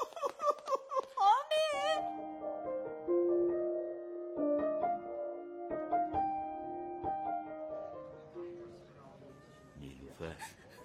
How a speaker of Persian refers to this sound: دخترم چرا گریه میکنی؟ شوهرمو دست بسته بردن دادگاه بشینم بخندم.